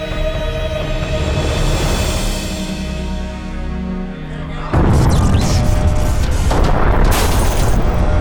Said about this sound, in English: The explosions rippled along both flanks of the Veritas Ferrum. The blasts were twin broadsides as the Iron Hand strike cruiser drove between its enemies.